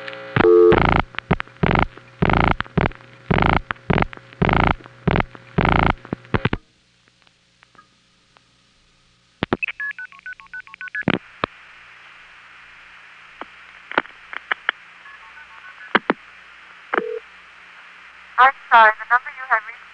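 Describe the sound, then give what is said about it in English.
A telephone call being routed through switching equipment in Illinois, via Hempstead, a 4A switch in Norway, and an NX1 switch in DeKalb, to the tributary in Maple Park: a rapid run of regular pulsing bursts, a pause, then steady signaling tones with sharp relay clicks and brief warbling tone chirps near the end. “Here's one that goes through Hempstead, Norway, Illinois, 4A. 8151. DeKalb, Illinois, NX1, to the tributary in Maple Park, Illinois.”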